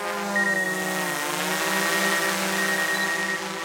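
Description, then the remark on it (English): A fire department's Frisbee-sized water-rescue drone, fitted with a camera and a small folded-up flotation device dangling from its center, whirs in a loud, steady, high-pitched buzz, the motor tone dipping briefly before settling back into an even drone for several seconds, with no voices. “the department was able to buy a special drone outfitted with some unique features.”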